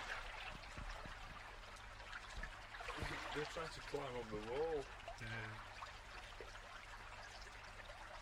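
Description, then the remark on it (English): Water bubbles and trickles steadily throughout, a continuous wash of liquid sound as something keeps bubbling up, with a voice speaking over it midway. “Something keeps fucking bubbling up in this bastard.”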